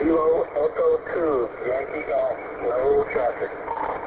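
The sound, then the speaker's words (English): A faint amateur radio transmission on a Michigan ARPSC net: a thin, band-limited voice checking in and reporting no traffic, talking through steady static hiss, wavering and slightly distorted. “Okay, got you in there, it was a little light.”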